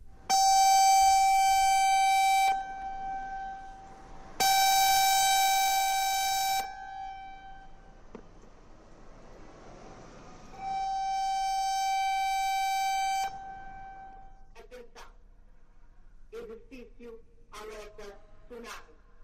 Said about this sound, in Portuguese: Ouvintes da Provaral, não se assustem. É um som, vamos passar agora... Não travem o carro, não entrem em pânico, mas é este o som de alerta de tsunami. Aqui vai.